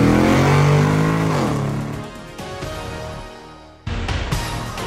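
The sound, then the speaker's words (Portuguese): A car engine revs loudly, its pitch sweeping as it accelerates, then settles into a steady roar that briefly dips before surging again near the end. No one speaks. “engata a primeira e pé embaixo!”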